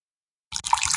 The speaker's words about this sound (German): Aber ich war ja schlau und hab gleich den kompletten Wasserkocher voll Wasser gemacht gehabt und das restliche Wasser in der Thermoskanne. Und jetzt kann ich mir hier live einen zweiten Aufguss machen. Yeah. Achtung, vielleicht hört man's.